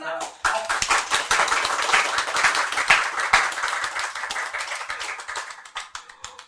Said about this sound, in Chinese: 哦，这次拍手还有节奏的，还有快慢节奏的，好。